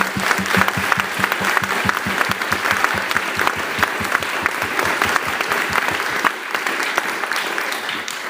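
Sustained applause from an audience, dense rapid clapping at a steady loud level throughout, thinning slightly in the final seconds with no voices standing out.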